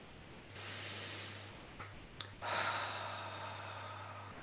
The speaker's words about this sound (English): Release, big breath in. Big breath out. Do that a few more times.